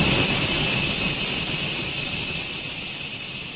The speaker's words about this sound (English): This one's named the High Endeavour, but I call it Puffing Billy. And why is that? Because at this time of night, near exact to the minute, the mechanism cools. But just before it shuts down, it lets loose one big blast of steam.